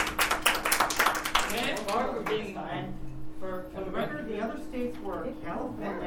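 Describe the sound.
A burst of audience applause, many hands clapping rapidly for about two seconds, then fading as people start talking and chatter carries on over the last few claps.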